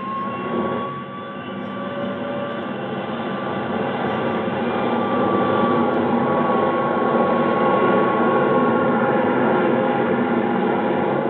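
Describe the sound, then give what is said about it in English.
Air National Guard jet 4389 powers up for takeoff at 9:29 p.m. New York time, its broad engine roar swelling louder over about eleven seconds, with a thin whining tone riding above the steady rumble. No voices. “Tower, this is Air National Guard Jet 4389. Request takeoff clearance. 4389, cleared for takeoff.”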